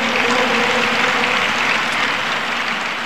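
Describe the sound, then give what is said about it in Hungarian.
A large crowd in St. Peter's Square applauds during the homily as Giovanni Battista Re recalls Pope Francis's gestures for refugees, a dense, steady wash of clapping that holds at an even, loud level for the whole stretch, with no voices rising above it. “Nagy taps volt a Szentpéter téren, amikor Giovanni Battistare azokra a gesztusokra emlékeztetett, amelyeket Ferenc pápa a menekültek érdekében tett.”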